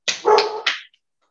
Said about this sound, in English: she's got a hound bark. Mm-hmm. This real high pitched bark. I don't know what she's barking at, but she's barking.